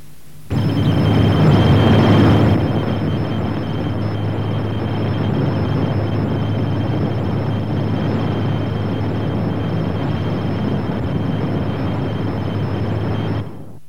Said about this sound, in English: A navigation satellite transmission at real speed. We'll now play it at a quarter speed, and you can hear the distinct pulse every 4 seconds, which corresponds to a second of real time, and the 3 tones which are used.